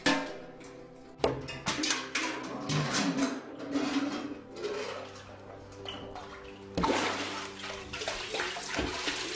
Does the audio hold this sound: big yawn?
no